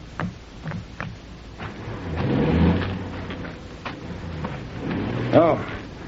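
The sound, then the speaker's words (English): The engine of Amos Snood's Dobie House delivery truck rumbles low and swells as it pulls away, with clunks and knocks scattered around it and a brief voice near the end. “Oh, there's Amos Snood's Dobie House delivery truck pulling away.”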